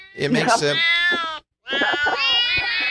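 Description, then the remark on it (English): Two long, wavering cat meows with strong harmonics, played from the Cat Piano app on an iPad, loud, separated by a short pause, with a brief burst of chatter at the start. “Well, hey, no, you laugh, but I have an actual kitty cat program on my iPad.”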